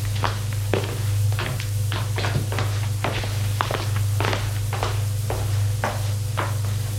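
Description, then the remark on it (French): Footsteps climb a staircase up to the second floor in a steady rhythm, each step a soft thudding knock, with a low continuous hum underneath and no voices. “Ils sortent du salon, suivent un couloir et montent les escaliers jusqu'au deuxième étage.”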